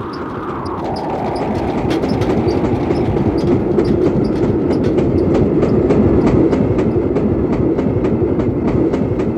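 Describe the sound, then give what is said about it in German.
A train races along the tracks, a loud steady rumble filling the low end with rapid, regular clicking of wheels over rail joints throughout, with no voices. “Der Zug raste dahin, näherte sich der Stelle, wo die zweite Gruppe der Trams ihn erwartete.”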